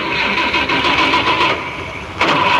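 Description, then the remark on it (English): A car engine cranks over and over with a rapid, rhythmic grinding churn, loud, never catching into a steady run. “It won't start, you know.”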